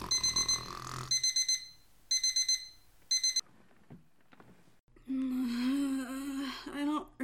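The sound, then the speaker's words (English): An alarm clock rings in loud, shrill electronic bursts, four quick clusters of beeps in about three seconds, then stops, and a person's voice follows. “Setting an alarm.”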